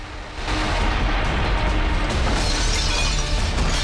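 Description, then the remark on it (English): Clay pots shatter against rocks during a volcanic eruption in a loud, continuous burst of breaking and clattering fragments, with crashing debris sustained throughout and a low rumbling underneath. “Pots shatter against the rocks.”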